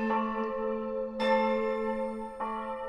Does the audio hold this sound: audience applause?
no